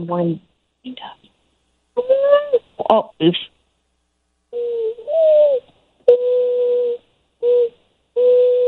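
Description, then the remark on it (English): A person imitates a mourning dove's cooing call, producing a series of low, hollow hooting notes, some rising then held, spaced by short pauses, clear with no talking. “Yeah, it was a morning dove.”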